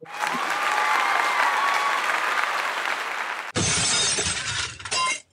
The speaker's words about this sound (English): Nothing really suits existential dread like that sound effect of glass breaking.